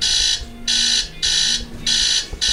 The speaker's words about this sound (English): You didn't realize that, like, that alarm goes off every day.